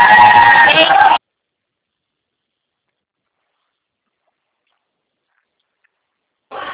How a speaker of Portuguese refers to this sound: Desculpa, viu, a gritaria.